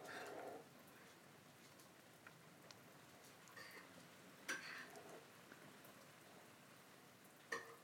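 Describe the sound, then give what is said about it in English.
After the rain has stopped, rainwater drips steadily off trees in a soft, continuous patter like light rain, with a few sharper, louder drops landing now and then. Quiet and fairly diffuse, with no voices. “Still sounds like it's raining, but it comes off the trees.”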